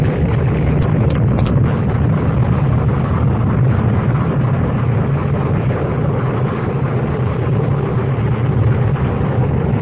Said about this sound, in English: Come by earlier and set up the explosion? Or did the natural forces of spontaneous combustion pick that exact moment to assert themselves?